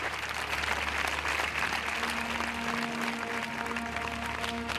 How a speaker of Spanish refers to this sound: Els aplaudiments han trencat el silenci en el moment que la família, el marit i els quatre fills han sortit al portal.